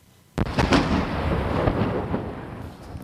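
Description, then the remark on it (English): Avalanche cannons fire at an alpine ski resort in the French Alps: a sudden deep boom bursts out after a brief quiet, followed by a long rumbling roll of echoing blasts that stays loud for several seconds, reverberating across the mountains. “Wow, those are mighty avalanche cannons going off in the French Alps.”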